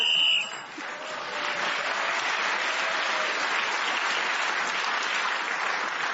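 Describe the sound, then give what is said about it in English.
A brief, shrill game show whistle blows for under a second, marking time up as a panellist is still speaking, and is immediately followed by loud, steady applause that carries on to the end. “you've got extra points and securing one for speaking as the whistle went”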